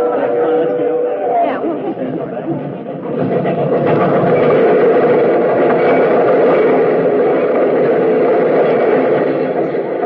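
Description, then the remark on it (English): A train, number 31, rumbles steadily into a station on track 3, its continuous mechanical roar filling the space while a crowd murmurs and chatters underneath. “I don't see anybody in uniform on that train.”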